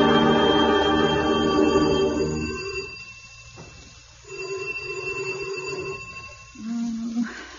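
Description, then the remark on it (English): A doorbell at Wiley's house rings in three steady, buzzing bursts: a long first ring fading out, then two shorter rings after brief pauses, with no one speaking. “Wiley won't answer the doorbell.”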